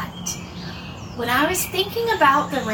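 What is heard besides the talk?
birds chirping outdoors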